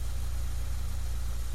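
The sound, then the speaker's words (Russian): A car engine, just started by a young woman, idles with a steady, low throbbing rumble, constant throughout, with no voices and no change in pitch or loudness. “Девушка быстро поправила сиденье автомобиля, завела мотор и включила заднюю скорость.”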